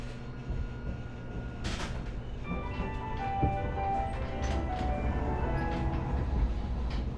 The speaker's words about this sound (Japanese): 発車します。手すり、つり革におつかまりください。この電車は函館ドック前行きです。